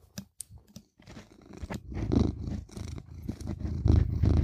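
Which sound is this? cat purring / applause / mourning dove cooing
cat purring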